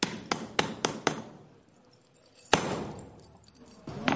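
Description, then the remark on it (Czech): A costumed medieval minter strikes a Brno groschen coin by hand with a hammer in the arcade of Brno's Old Town Hall, showing 13th-century coin minting: five quick, sharp metallic blows, then a pause and one heavier ringing strike that fades slowly, with another blow starting at the end. “Tak a mince je hotová.”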